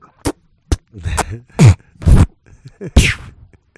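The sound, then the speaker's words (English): A voice imitates snorting a peanut M&M candy with a series of short, loud, noisy nasal bursts, about six in quick irregular succession, with grunting effort between them and no speech. “Oh, let's try to snort this peanut M&M.”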